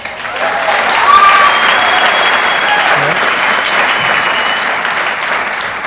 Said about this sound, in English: This is the signal for spontaneous applause.